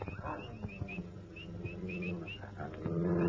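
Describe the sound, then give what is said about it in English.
Dogs growl low and steadily at night, with a few short barks breaking through. The growling swells louder toward the end, while faint high chirps sound in the background. “What the dickens is the matter with the dogs? Hey, too late. Too. That's better. I wouldn't mind if there was something to bark at.”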